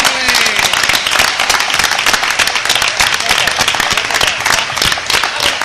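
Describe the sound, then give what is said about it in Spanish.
Loud, sustained applause from a large audience at a Radio Alfares special gala for an album presentation, a dense steady wash of many hands clapping at once, continuous throughout, with faint cheering voices mixed in. “Ahora no aplaudáis, ahora ahora quiero que aplaudáis como queráis, pero este aplauso va para todos vosotros.”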